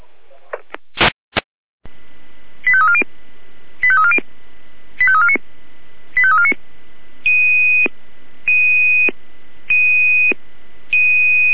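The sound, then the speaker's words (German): Radio dispatch alerting tones from a control centre paging a unit to a call in Kala: a few crackling clicks, then four quick falling tone bursts followed by four longer, steady high beeps, evenly spaced and loud over a faint radio hiss, with no talking. “Achtung, Achtung, hier die Leitschirr, Alarmierung.”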